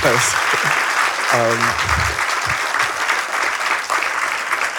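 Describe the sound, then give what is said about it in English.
Steady, dense applause from an audience fills the whole stretch, loud and continuous, with a brief voice or two cutting through near the start. “Yeah, a big round of applause for those people.”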